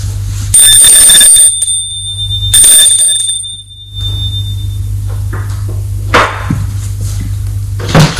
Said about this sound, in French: Fin d'après-midi, après son travail, Xavier va sonner à la porte de son voisin.